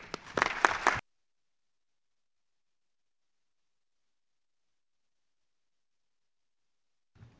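A short burst of audience applause for the departing SG at a morning conference session, dense, lasting about a second before cutting off abruptly into a long silence, with a faint stir of sound at the very end.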